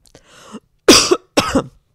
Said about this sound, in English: I'm coughing.